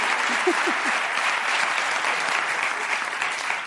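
Steady audience applause, a dense wash of many hands clapping at an even loudness for a few seconds, with a couple of faint voices briefly audible at the start.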